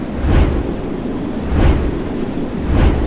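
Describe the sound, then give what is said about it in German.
Wind turbine blades, their tips reaching 100 meters high, whoosh past in a steady rhythm, three broad swells about a second apart over a constant roar of strong wind, fairly loud. “Hört mal, wie die Flügel rauschen.”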